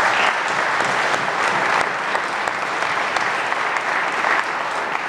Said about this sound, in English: and of course, our first class of auto tech trainees. How about a round of applause for our trainees?